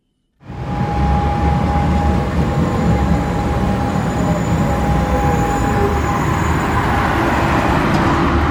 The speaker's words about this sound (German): Es dröhnt, es raucht und quietscht. An der Schlossstraße zwischen Loriplatz und Europaplatz wird es eigentlich nie wirklich leise.